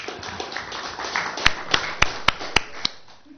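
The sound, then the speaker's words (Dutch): A short, sparse burst of applause in a council meeting, after thanks for people's efforts: about six sharp, separate claps at an uneven pace, rising over a low murmur of background noise and then fading. “Applaus is toegestaan, voorzitter.”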